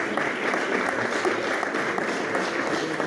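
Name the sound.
applause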